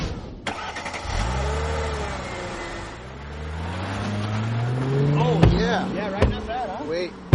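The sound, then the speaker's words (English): A car engine revs up, its pitch climbing steadily over several seconds, then holding as lively voices of the guys from Barstool Sports' Pardon My Take chatter over it in the car, punctuated by a few sharp knocks. “Hilarious guys, and they were hilarious in the car with me.”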